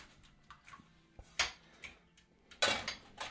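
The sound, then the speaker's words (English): Repeated scraping and clattering of a utensil beating a mixture in a frying pan, irregular strokes with a couple of louder clanks, fairly quiet, no talking. “Here is a frying pan. No, more, harder. Beating.”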